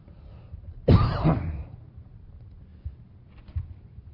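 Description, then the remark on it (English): A single loud throat clearing bursts out and rasps for about half a second, followed by a couple of soft, faint throat sounds amid quiet. “I'm going to start with a cough drop.”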